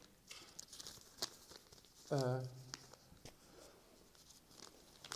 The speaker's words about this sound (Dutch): Ik moet even een papier pakken.